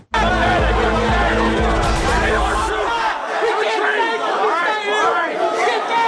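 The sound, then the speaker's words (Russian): A loud, dense crowd of angry Trump supporters on 6 January 2021, with pepper gas and aluminium pipes, shouting and chattering all at once, many raised voices overlapping in a continuous roar, with a heavy low rumble in the first few seconds. “Перцовый газ, алюминиевые трубы и толпы разъяренных избирателей.”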